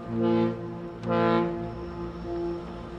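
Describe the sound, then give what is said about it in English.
A deep ship's horn of the MV Coho ferry from Port Angeles sounds in long blasts in Victoria Harbor, two strong pulses followed by a lingering lower tone, signaling that the ferry is about to come around the corner, with no voices. “That's the Coho giving the signal that they're about to come around the corner.”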